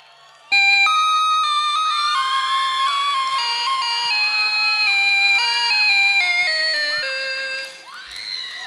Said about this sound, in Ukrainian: сеанс экспериментальной музыки. Используем клавиши.